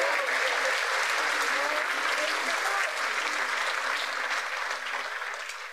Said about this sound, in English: Can we give Jesus a big, big round of applause for that?